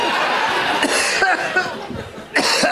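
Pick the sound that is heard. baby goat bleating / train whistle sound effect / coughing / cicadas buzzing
coughing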